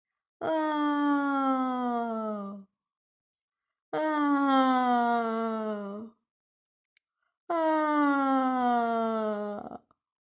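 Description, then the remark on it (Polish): Three long, drawn-out yawns from a human voice, for a little bear waking from winter sleep in a forest, each a couple of seconds of descending, groaning tone separated by short silences; clear and loud, with no other sounds. “Z zimowego snu obudził się pewien niedźwiadek mieszkający w lesie. Ziewnął 3 razy.”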